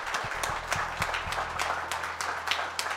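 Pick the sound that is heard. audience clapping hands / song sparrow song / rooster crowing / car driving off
audience clapping hands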